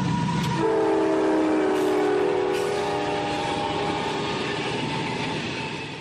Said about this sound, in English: That is a very large freight train led by some very large and powerful engines.